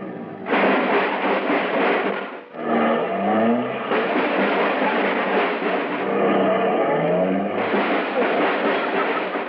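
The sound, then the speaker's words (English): A car engine revs loudly as the car is parked on a street in front of a home in California, its pitch climbing in a couple of surging bursts over a steady rumbling roar, with no one speaking. “There was a dim light on in my apartment, so I parked my car.”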